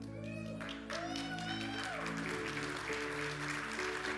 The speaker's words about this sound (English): Come on, can we stand up and applaud these?